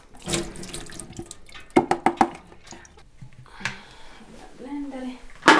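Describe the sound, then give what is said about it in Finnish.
Water runs from a tap into a sink while canned large white beans are drained for blending into a seitan base, with a quick series of sharp metallic clatters in the middle and a faint voice murmuring. “Mulla on tämmösiä isoja valkoisia papuja, ja mä valutan niitä, ja sit mä laitan ne blenderiin vähäksi aikaa, niin saadaan semmonen pohja tohon seitaniin.”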